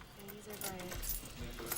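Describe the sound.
Keys on a keychain jangle in a few quick, bright metallic bursts, moderately loud, with a faint voice murmuring underneath, as a tool on the keychain is used to loosen the screws of a dividing window in a prison visiting area.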